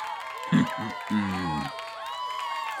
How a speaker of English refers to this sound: You hear, Lobo, how they cheer for me?